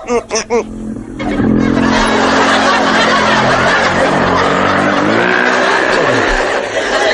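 A motorcycle engine sound effect roars after a few quick vocal bursts, revving loudly with a rising and falling pitch that holds steady for several seconds.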